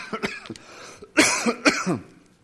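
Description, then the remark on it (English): A man preaching a sermon coughs several times in quick succession, with a couple of lighter coughs first and then two loud, harsh bursts, with no talking. “And if I don't stop coughing, Andrew, you may have to pick up and preach the rest of my sermon.”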